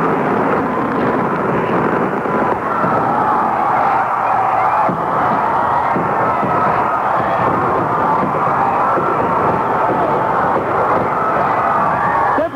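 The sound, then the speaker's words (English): Fireworks go off at Province House in Charlottetown, Prince Edward Island, Canada, as balloons fly up to mark the start of the 21st century; a dense, unbroken barrage of booms and crackles blending into a loud, steady roar that lasts the whole stretch without a pause. “Balloons are flying up here, and there go the fireworks.”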